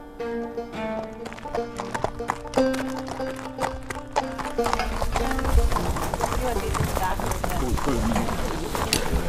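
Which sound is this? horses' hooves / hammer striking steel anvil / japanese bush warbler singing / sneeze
horses' hooves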